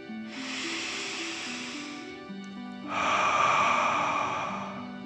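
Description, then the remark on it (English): A slow, deep 'dragon breath' drawn in through the nose, filling the chest and belly, then a louder, airy exhale after a brief pause, as if breathing fire. Unhurried, with soft music humming quietly underneath. “Remember to breathe in through your nose, filling up your chest and belly, and then out, pretending you're breathing fire.”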